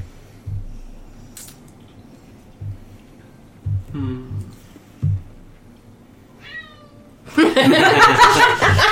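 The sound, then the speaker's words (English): A voice imitates a cat meowing: two short, rising-and-falling mews spaced apart over soft low thumps, followed by a louder, rough burst of noisy vocal sound at the end. “That is exactly the sound she made.”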